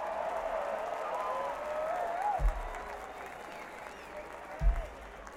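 An audience claps steadily in a dense, continuous wash of applause to congratulate a bass player, with a few cheers and whistles rising above it and two low thumps breaking through.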